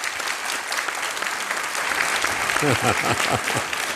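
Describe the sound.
A crowd claps steadily and loudly in a dense, continuous wash of applause, with a voice speaking over it during the second half.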